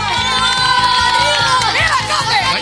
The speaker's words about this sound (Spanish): COPE, ahí está la ovación de gala de la chiquillería, que también saluda a todo el personal COPE que se lo está currando ahora mismo.